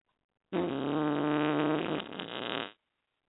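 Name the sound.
fart sound effect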